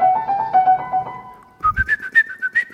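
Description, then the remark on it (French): A whistled imitation of a female blackbird's song: a lower wavering tone that breaks off, then a higher series of quick, rhythmic pulsed notes, fairly loud and alone. “Voilà, j'ai planqué dans les buissons et je suis tombé sur trois merles, deux mâles et une femelle. Et la femelle nous fait cette petite mélodie qui fait...”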